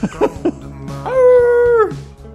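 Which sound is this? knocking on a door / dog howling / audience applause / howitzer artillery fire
dog howling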